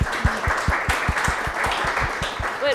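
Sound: audience applause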